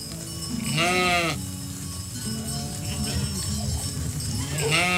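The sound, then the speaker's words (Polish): Two lambs bleat loudly, two wavering, quavering cries about four seconds apart, with softer low bleats and farmyard murmur filling the gap between them. “Teraz po prostu baranki kupuje się od pasterzy. Dwa baranki.”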